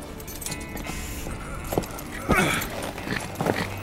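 Horse hooves clip-clop in a loose, irregular rhythm, a few sharp thuds standing out above a steady, noisy background.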